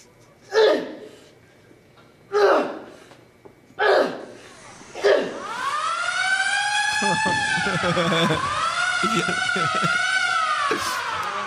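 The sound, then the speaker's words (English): Four loud, strained grunts from a man working out in a gym, spaced a second or two apart, then a loud wailing lunk alarm siren, set off by his noise, kicks in and keeps rising and falling steadily until the end. “So here's a guy working out. He's making too much noise. Check out the alarm.”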